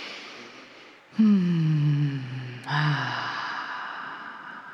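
A slow, deep breath drawn in with a low, voiced rasp, followed by a long, audible exhale that trails off softly, taken during a guided relaxation exercise. Fairly loud, with no talking.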